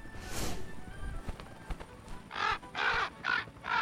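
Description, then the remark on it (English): A raven caws loudly and repeatedly, four harsh calls in quick succession near the end, after an earlier single call and some faint knocking sounds. “That raven is calling like crazy.”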